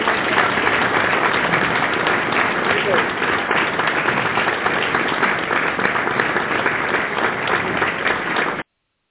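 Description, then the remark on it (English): A steady round of applause from many hands in the KDFI radio studio, celebrating 210 years, dense and loud, holding an even level for about eight seconds before cutting off abruptly. “210 years deserves a KDFI radio round of applause.”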